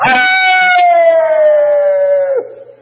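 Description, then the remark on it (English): A man's voice imitates a wolf's howl, mimicking how some people in church sound when trying to praise God, holding one long, loud, wavering tone that slowly slides downward for over two seconds before cutting off abruptly. “Sound like a stinking wolf a-howling.”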